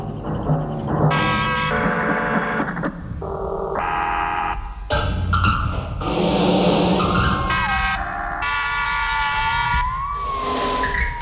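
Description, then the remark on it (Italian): Loud, continuous car traffic noise: overlapping horn-like blasts and screeching tyres in quick succession, with a wailing siren gliding through the final seconds. No one speaks. “Invece sentiamo forse più nettamente i rumori di automobile.”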